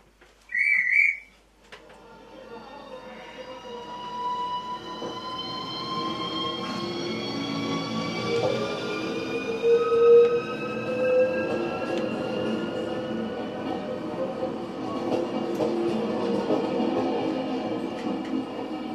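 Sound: moving train on rails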